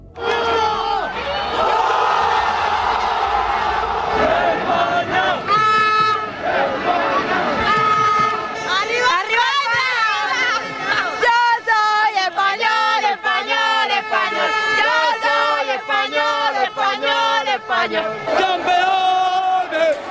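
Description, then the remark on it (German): A large crowd of Spanish football fans roars and chants, celebrating a 116th-minute goal that won the World Cup final 1-0 against the Netherlands. Many voices sing together in loud, rhythmic waves that continue without pause. “Spanische Jubelgesänge, die in den Ohren der holländischen Fans wehtun mussten.”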